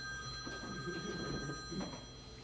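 A telephone rings with a steady, high electronic tone that holds for the whole moment, fairly quiet, over a low murmur of background noise.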